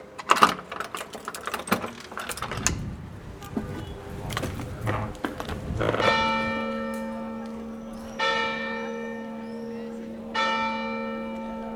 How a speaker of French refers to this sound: Une cloche, un cri de métal, inventé pour l'homme. Donner l'alarme, annoncer le danger, courir, loin, plus loin que la voix de l'homme.